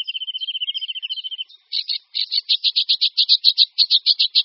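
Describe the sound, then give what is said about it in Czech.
A sedge warbler sings: a fast trilled run of thin notes, then a steady, rhythmic series of harsh, scratchy chattering syllables repeated about three per second, with no other sounds. “Jeho zpěv je souvislé, rychlé střídání skřípavých, vrzavých, cvrčivých slabik s charakteristickým triotem.”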